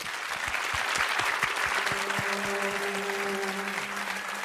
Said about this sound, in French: Alors j'ai le grand plaisir de retrouver pour la troisième fois sur le pont le Cuer de la Plana. S'il vous plaît, applaudissements.